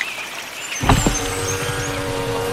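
A mountain off-road vehicle's engine turns over and catches, then settles into a steady rumbling run with a low throbbing rhythm; no one speaks.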